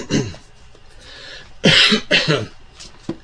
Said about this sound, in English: I'm struggling with a bit of a cold here that's not quite left me yet. That's why I'm kind of coughing away.